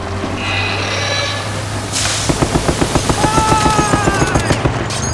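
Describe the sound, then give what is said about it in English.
A .50 caliber heavy machine gun fires a sustained burst of loud, evenly spaced shots, roughly a dozen booming rounds in quick rhythm after a brief noisy lead-in, with no voices present. “Several bullets from the 50 cal pierced the little one through the chest, knocking it back to the ground where the chemicals continued to pour over.”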